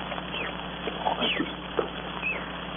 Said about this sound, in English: Monkeys, those crazy monkeys, I could strangle them.